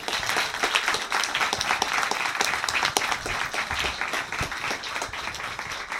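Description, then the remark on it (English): Sustained applause from a sizable audience at Banter at the MVP welcoming Neil Strauss, dense overlapping claps at a steady loud level for several seconds, with a few sharper individual claps standing out and no talking. “Please give a warm round of applause and welcome to Neil Strauss.”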